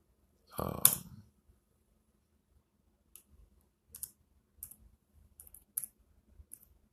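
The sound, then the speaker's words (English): Irregular clusters of soft key clicks from a computer keyboard as someone types in a search to look up the name of Apple's CEO, fairly quiet, with pauses between keystrokes, following a brief loud burst of noise at the start. “Sorry, I'm just typing it in.”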